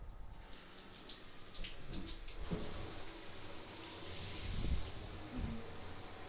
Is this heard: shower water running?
yes